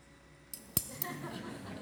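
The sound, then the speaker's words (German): A Nutella glass jar with a foil seal being opened: a few sharp clicks and a glassy clink, followed by a soft crinkling rustle as the foil seal is handled. Fairly quiet, with no talking. “Machen wir mal auf. Upsala. Ja, die Folie ist nicht so ganz original. Auch Nutella-Glas, sieht gut aus.”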